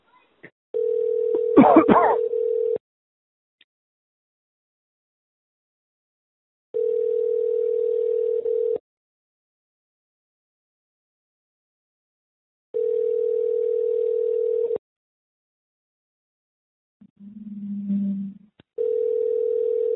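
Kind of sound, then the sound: signal or alarm, telephone dial tone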